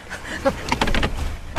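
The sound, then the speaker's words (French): A car door opens: a few soft mechanical clicks and rustles, then a sharp latch clunk at the end. Faint murmuring may sit underneath. “Vous auriez dû m'ouvrir, ce qu'on vous a dit, c'est ça, c'est la première règle, ça, faut venir sortir ouvrir la porte.”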